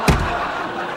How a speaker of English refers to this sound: He closes the door.